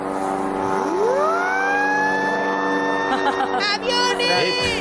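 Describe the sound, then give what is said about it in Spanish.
A steady droning light-aircraft engine sound effect runs throughout while a small siren whistle is blown, swooping upward in pitch, holding a long high wail, then wavering and warbling near the end. “Esta pequeña sirena que se usaba, yo lo muestro a la gente, es un pequeño silbato.”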